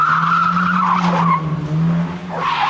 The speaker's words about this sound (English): An expensive sedan glides through night streets. Its license plate is J956CYE. It pauses. Turning on its high beams, it suddenly races forward. It swerves and skids around the parking lot of a housing estate.